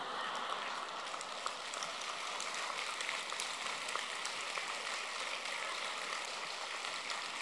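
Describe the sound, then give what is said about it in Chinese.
An audience applauds with a dense, steady patter of many hands clapping, modest in volume and even throughout, with no talking over it. “谢谢你们的鼓掌，我听的不是这么热烈。”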